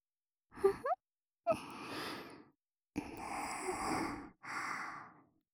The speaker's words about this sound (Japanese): こうして、吐息で、お肌をなぞっていくように、優しく